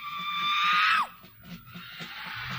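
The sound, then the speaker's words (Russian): A man lets out a loud, piercing shout for one side of an audience to repeat, holding one high pitch for about a second before it swoops sharply downward and cuts off, leaving a faint murmur of background noise. “А теперь попробует … сейчас показать вам другую феньку вот правой стороне. Крикнуть, и вы повторите.”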